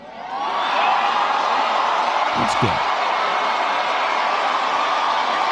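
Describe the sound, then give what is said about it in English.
Sustained audience applause with some cheering swells in within the first second and holds steady and loud throughout, while a voice speaks briefly over the crowd noise. “I'm surprised that got the applause.”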